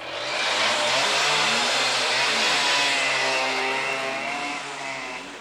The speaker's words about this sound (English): And, when the door opened and 4 motorcycles came roaring out, soldiers scurried for shelter toward every point of the compass.